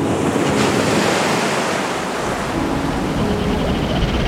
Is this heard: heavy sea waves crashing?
yes